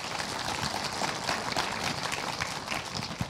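A small audience claps steadily for a few seconds, a dense patter of many hands with no break, sounding moderately close and even in volume throughout.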